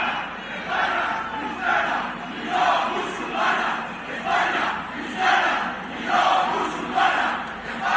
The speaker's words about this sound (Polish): Weszły na ulicę tłumy ludzi, którzy krzyczą, że Hiszpania jest chrześcijańska, a nie muzułmańska. Spójrzmy.